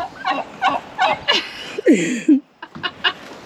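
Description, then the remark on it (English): Several Slate turkeys gobble in quick, rattling bursts, a rapid series of warbling calls with a couple of lower, descending notes mixed in, loud and without talk. “So how do you like the slate? So they are period appropriate, obviously.”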